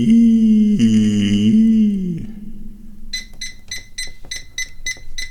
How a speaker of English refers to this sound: Beep, beep, beep, beep, beep, beep, beep.